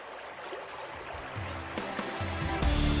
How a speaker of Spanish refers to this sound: Es el sonido de la primera fuente a la que abasteció de agua el canal de Isabel II. Fue en 1858 la fuente que inauguró aquel canal.